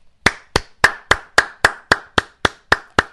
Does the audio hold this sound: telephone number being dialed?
no